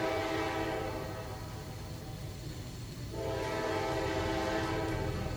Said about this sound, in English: I used to hear those all the time. The train ran behind my grandfather's motel when we moved out to Florida.